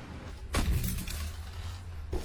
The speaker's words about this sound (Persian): با همین صدای بسته شدن در ماشین من داخل پیکانوانتی نشستم که متعلق به همیهن زحمتکشیه که بار میوهشون رو پشت وانت زدن و بدین طریق دارن نان حلال برای خونشون میبرن.